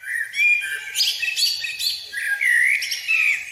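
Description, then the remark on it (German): A common blackbird sings a continuous run of fluty, warbling phrases with clear whistled notes and brief twittering flourishes, fairly loud, with no voices. “Wer so schön singen kann wie eine Amsel, der ist nicht nur bei Vogelfreunden sehr beliebt.”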